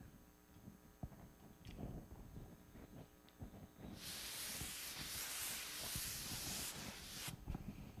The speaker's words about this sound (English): Oh, you can enjoy spray art with this.